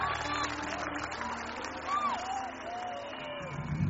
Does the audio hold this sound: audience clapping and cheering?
yes